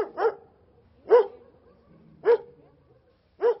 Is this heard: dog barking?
yes